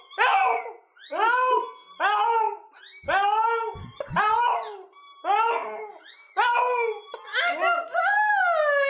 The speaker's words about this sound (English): a pug that screams for help. Okay. This is a pug shouting for help.